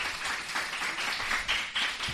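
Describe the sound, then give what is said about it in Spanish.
A group of schoolchildren applauds to welcome the next featured guest, producing a dense, steady patter of quick overlapping claps that stays fairly even in loudness with a few brighter surges, and no voices are heard. “Venga, otro aplauso fuerte para nuestra siguiente protagonista.”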